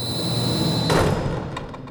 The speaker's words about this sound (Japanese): 外への扉が閉まった。開かない。